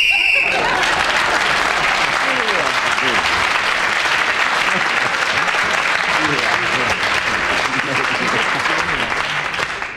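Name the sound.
game whistle blown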